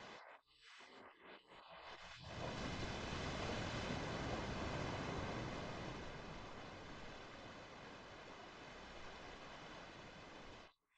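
A steady, broad wash of ocean surf swells in after a couple of seconds and rolls on continuously, a soft, even roar with no voices over it.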